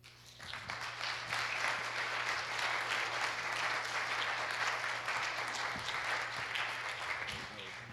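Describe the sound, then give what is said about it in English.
An audience at a church breaks into applause as a pastor is invited up to the front, the dense clapping swelling within the first second and then holding steady and loud until the end, with a low electrical hum beneath it. “So at this time, with a hand of applause, I'm going to ask Pastor Dale to come up.”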